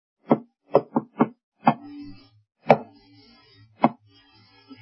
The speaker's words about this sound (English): She heard a knock. He didn't use the key. It went like this.